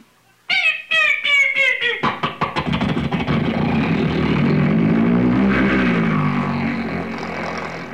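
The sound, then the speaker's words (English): A voice imitates an airplane engine starting up: a few sputtering, coughing bursts speed up into a steady, loud droning roar that holds continuous to the end. “The engine starts, the plane taxis out to the end of the runway.”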